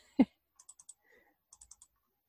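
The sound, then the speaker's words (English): A single solid thump, then two short bursts of four quick, light computer keyboard and mouse clicks as text is copied and pasted from a document, fairly quiet, with no one talking. “So I can copy and paste”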